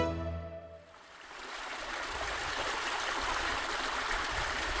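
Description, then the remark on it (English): A mountain stream in Switzerland rushes steadily, a dense wash of flowing water that swells in after a brief fading musical tone and continues unbroken to the end. “In the mountains of Switzerland, water is everywhere. Streams, rivers, and lakes flow into the Grand Dixence, the world's tallest gravity dam.”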